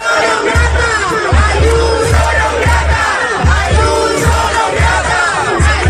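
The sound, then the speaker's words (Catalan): Students, professors and staff at the Complutense University of Madrid shout in unison at Madrid regional president Isabel Díaz Ayuso during a ceremony, trying to stop the event: rhythmic chanting with strong repeated low beats roughly twice a second, loud and sustained throughout like a protest chant. “Els crits que ha rebut la presidenta de la Comunitat de Madrid per part d'alguns estudiants, de professors i del personal de la universitat que han intentat impedir l'acte.”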